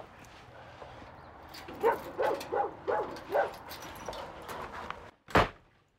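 A pink key rattles in a lock and a door opens with a sharp clunk near the end, after a run of five quick dog barks and whines in the background.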